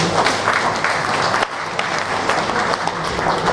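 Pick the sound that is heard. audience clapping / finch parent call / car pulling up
audience clapping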